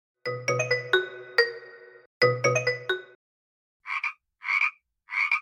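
Loud frog croaks: two quick clusters of ringing, overlapping calls, then three short raspy croaks spaced evenly apart, with no talking.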